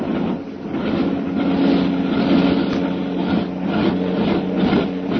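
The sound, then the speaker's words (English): A steady, droning roar of the engines of Karnak's plane as it heads back to the lake, with a low humming tone running underneath that wavers slightly in loudness throughout, no voices present. “Karnak's plane. It's green back to the lake again. What? Well, there's something wrong. Boy, oh, boy, I'll say there is. Listen to those motors.”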